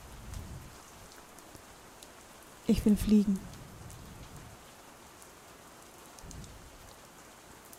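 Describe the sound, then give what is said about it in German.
Steady rain hisses throughout, a dense, even patter filling the background. Partway through, a voice speaks briefly over the downpour, which keeps going unchanged afterward. “Es regnet.”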